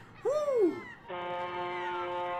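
seagull call

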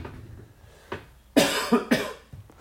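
cough

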